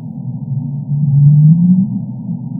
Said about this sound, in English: She's heard the calls of right whales in the Gulf of California, but she's never seen one. She shared this recording of a right whale's up call.